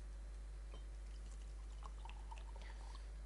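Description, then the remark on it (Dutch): Water pours steadily into a glass for a few seconds, a soft trickle with rising bubbling tones as it fills, no voices over it. “Ik ga even nog wat water.”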